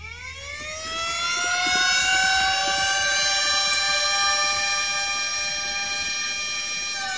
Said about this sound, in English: Stop it with your siren, man. Stop it with your siren.